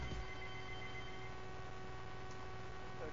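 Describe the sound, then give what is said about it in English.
A phone line carries a steady electronic ringing tone for an outgoing call, held continuously at moderate level over a low background hum, with no one speaking. “Oh, why don't we, before we cut to that, let's try the phone again.”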